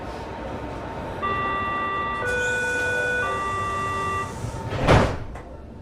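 A Berlin U-Bahn subway train pulls out of the Naturkundemuseum station, its motors whining in a steady series of stepped, rising electric tones over a rumbling hum, followed by a brief burst of hissing noise.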